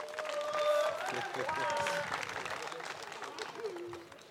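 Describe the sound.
An audience claps steadily for a performer after a poem, with a few whoops and cheering voices riding on top, loud and dense for a few seconds before thinning out toward the end.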